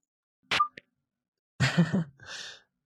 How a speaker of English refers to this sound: It sounds like he would fight if his phone didn't disconnect like that.